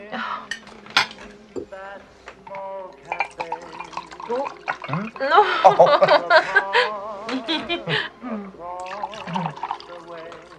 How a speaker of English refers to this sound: Let me pour you some wine.